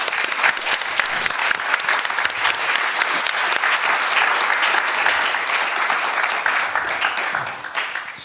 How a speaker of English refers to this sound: I hope they will be heard by powers other than ourselves, and I think we should give them a big hand of applause. Thank you.